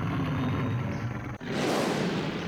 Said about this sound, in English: Joe had been sleeping soundly all night when suddenly he heard a loud roar.